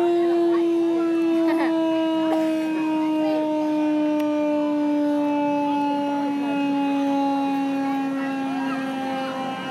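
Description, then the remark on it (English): An old U.S. Army military police car siren wails in one long, sustained tone that slowly sinks in pitch, loud throughout with no talking over it. “The old military police car.”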